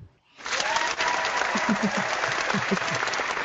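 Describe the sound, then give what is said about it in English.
A canned applause sound effect, like an 80s sitcom: a burst of applause starts abruptly after a brief silence, a dense wash of clapping from a crowd that stays steady and loud for a few seconds, with faint voices mixed in. “Nothing like canned applause. Yeah. Like a 80s sitcom.”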